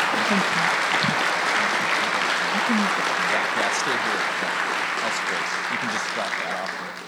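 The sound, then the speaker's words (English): A crowd applauds to thank a panel, steady for about seven seconds, a dense, even wash of clapping that stays loud throughout and tapers slightly at the very end, with faint voices mixed underneath. “Why don't we give a round of applause and thank our panel?”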